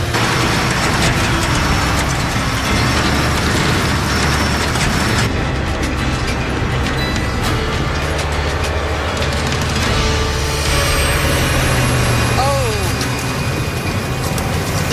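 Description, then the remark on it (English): A truck engine roars loudly and steadily for the whole stretch as the truck climbs a hill, with heavy low rumble and rattling, gritty noise over it. “So you want to get going just fast enough to have the momentum carry you up, but not so fast that you're jumping the truck.”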